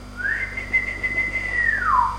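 A single long human whistle calling greyhounds, rising slightly at the start, holding a steady high pitch, then sliding downward at the end. It is clear and fairly loud over faint background hum, with no talking.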